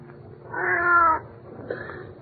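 A cat lets out one drawn-out, strained meow, loud, followed by a shorter, softer second meow. No one speaks.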